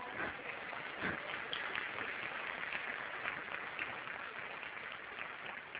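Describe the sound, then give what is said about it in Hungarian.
An audience applauds for the Lord steadily for several seconds, a dense, crackling wash of many hands clapping at an even, fairly loud level with no voices standing out. “Egy tapsot az Úrnak.”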